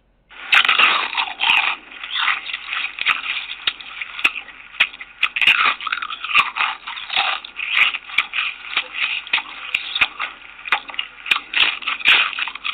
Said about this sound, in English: Every time a person crunches into a potato chip, he or she is enjoying the delicious taste of one of the world's most famous snacks, a treat that might not exist without the contribution of black inventor George Crumb.